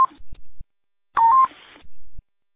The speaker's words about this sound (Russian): Ну, она по-военному бибикалка, вы сами понимаете, конец передачи.